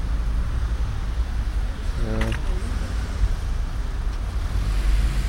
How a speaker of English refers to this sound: A lot of traffic.